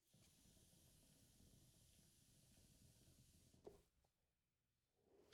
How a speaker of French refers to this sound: Je prends une petite puff.